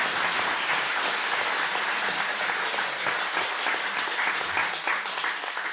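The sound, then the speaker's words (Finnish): A crowd applauds steadily, many hands clapping in a dense, continuous wash of sound that stays loud and even for several seconds with no one speaking. “Kuten näette, niin kaikki ovat paikalla ja tästä raivoisat aplodit.”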